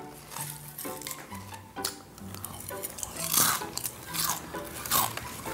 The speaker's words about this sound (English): Oh my God, could you chew any louder?